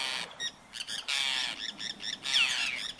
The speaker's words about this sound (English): Like this bird. A forester's tern hovers with quick wing beats before diving headlong into the water to grab a silvery fish just below the surface.